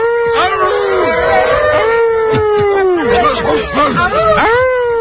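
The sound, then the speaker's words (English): A crowd of people in a studio imitates dogs howling, many voices overlapping in rising and falling wails that swell together, loud and continuous throughout, with no clear words. “I hear a lot of human beings making dog sounds.”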